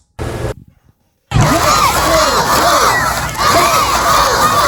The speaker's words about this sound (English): Thunderbug visiting school number 1,000. I didn't know there were 1,000 schools around here. Hyping up hundreds of students ready to feel like they're part of the Tampa Bay Lightning.